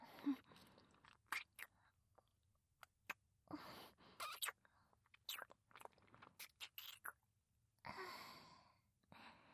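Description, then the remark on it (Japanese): Moist kissing sounds of lips pressed against lips: a series of soft lip smacks and pops at an irregular pace, mixed with breathy exhales. Nobody speaks. “唇と唇を重ね合わせるだけで胸がキュンってします。”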